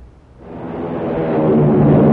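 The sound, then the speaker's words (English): The engines of an American Airlines flagship airliner roar during takeoff, a deep rumbling rush with a steady drone that swells louder over a couple of seconds. No voices are heard. “Hear that? It's the sound of a mighty American Airlines flagship taking off.”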